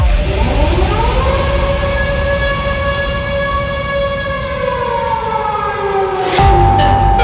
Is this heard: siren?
yes